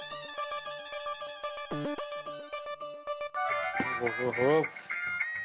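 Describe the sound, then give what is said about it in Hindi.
A mobile phone ringtone for an incoming call from Bhide plays a bright, repeating electronic melody, then gives way to a busier, warbling stretch of sound with a voice mixed in. “देखो भिड़े का ही फोन है, अब क्या बोलूँ सर।”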